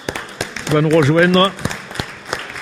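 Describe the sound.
A crowd at a meeting claps after an election result is announced, a steady patter of overlapping handclaps, with a voice speaking over the applause midway through before the clapping thins out.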